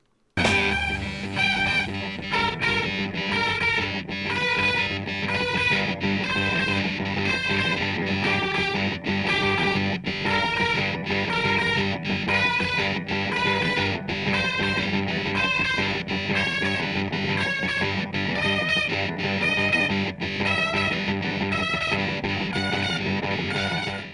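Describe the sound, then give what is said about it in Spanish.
Dense, loud guitar-driven music: two syncopated rhythm guitars play choppy stabs with regular short breaks, supporting a lead guitar climbing steadily upward on a whole-tone scale an octave from G to G, continuous throughout with no voices. “dos guitarras sincopadas apoyan la guitarra solista a medida que asciende.”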